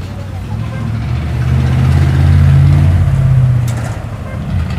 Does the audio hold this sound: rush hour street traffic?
yes